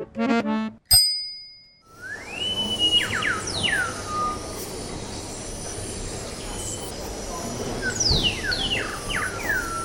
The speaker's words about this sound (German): Ganz schön nervig, oder? Zu hören ist dieses künstliche Vogelgezwitscher vom Band im Eingangsbereich zum Kaufhaus gern groß.